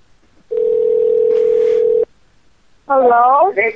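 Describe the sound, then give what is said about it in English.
A steady electronic phone tone hums for about a second and a half as an outgoing prank call rings, then stops; after a brief pause a voice answers. “Actually, the prank show's number now shows up as unknown, so I think a lot of these people don't actually want to pick up the phone.”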